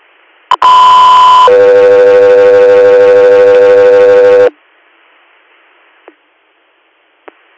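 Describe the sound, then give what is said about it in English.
Radio alert tones: a loud, steady higher-pitched tone for about a second, then a lower, buzzy tone held for three seconds, followed by faint static and a couple of sharp clicks. “Stand by for tones.”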